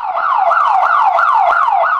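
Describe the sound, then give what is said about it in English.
A burglar alarm blares loudly, a rapid electronic siren repeatedly sweeping in pitch about every quarter second, with harmonics above; no voices. “Loud, annoying alarms are meant to scare off would-be burglars and to tip off the police, but often they're activated by strong winds, rain, pets, faulty equipment, or people who don't know how to use them.”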